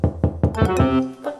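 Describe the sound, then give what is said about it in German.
Five quick, evenly spaced knocks on a door, each a firm, low thud, followed by a brief lingering tonal ring as the knocking stops. “Nanu, noch mal Besuch?”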